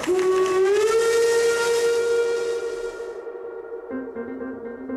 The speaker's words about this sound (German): Das ist da draußen eine Museumseisenbahn.